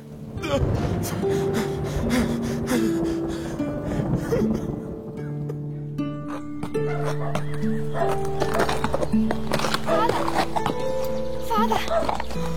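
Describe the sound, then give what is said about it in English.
A horse's hooves clop steadily while it whinnies and snorts, with sustained musical tones playing underneath throughout. “Stable my horse”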